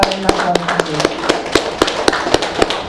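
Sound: audience clapping hands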